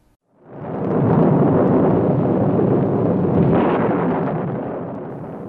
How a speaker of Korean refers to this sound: 어느 날 아이가 뜰에서 놀고 있는데 갑자기 비바람이 몰아치더니 천둥 소리와 함께 번개가 쳤습니다.